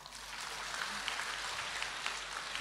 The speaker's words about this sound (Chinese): 鼓掌